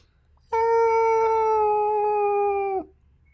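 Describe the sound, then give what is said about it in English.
A person voices a long, mournful whale-song call: one sustained, steady hooting wail lasting about two seconds, loud, sagging slightly in pitch as it ends. “And if you're on the coast, you probably speak dolphin? Yeah, or whale. Yeah. Song.”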